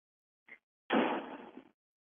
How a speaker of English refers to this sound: Now he's closing the front door.